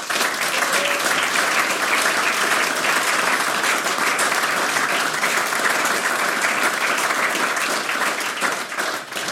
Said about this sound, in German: Auch für unser Zoom-Team bitte einen großen Applaus.